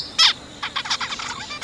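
A loud, sharp zebra finch chirp rings out, followed by a quick run of softer, nasal chirps and twitters from the small birds.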